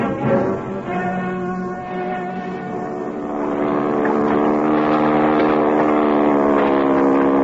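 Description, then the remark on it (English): A motorboat engine drones steadily on the water, a rich, continuous hum that grows a little louder partway through, on a boat going over to Craven's Point. No one speaks. “Can we get a boat and go over to Craven's Point?”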